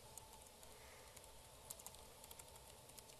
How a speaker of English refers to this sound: Yeah, there's something wrong with the keyboard. I have problems typing on it either.